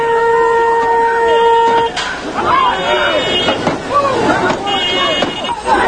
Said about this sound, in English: At least 20 to 30 young people throwing rocks. You can hear them impacting against cars and against trucks.